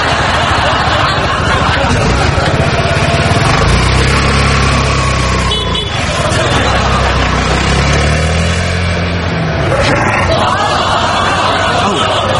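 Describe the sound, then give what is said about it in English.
A small 13-horsepower engine, like a riding mower's, with someone sitting on top of it, drones loudly and continuously the whole time, its low rumble shifting slightly in pitch, with muffled chatter underneath. “I'm sitting on top of 13 horses here.”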